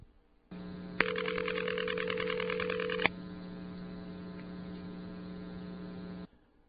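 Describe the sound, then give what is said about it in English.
A crossbar 5 telephone exchange tone-plant ringback tone, from a downtown office in Raleigh, North Carolina, over a steady low electrical hum: one harsh, buzzy ring lasts about two seconds, starting and ending with a click, then the hum carries on alone. “There was at least one large crossbar 5 that used such a tone plant.”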